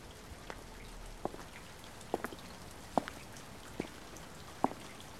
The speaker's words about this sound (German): Nun folge dem Plätschern des Wassers hin zu seinem Ursprung, zum Brunnen.